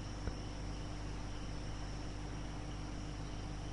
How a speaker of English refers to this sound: When you have when you're sitting in your room in meditation and suddenly the crickets start bothering you, or the sound of the squirrels, right? Things that normally would never have bothered you.